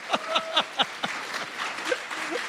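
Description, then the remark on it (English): Scattered clapping from a small audience: a few sharp, fairly loud claps in a quick rhythm, then thinner, softer, irregular claps trailing off. No one speaks. “You should clap for that, ladies and gentlemen.”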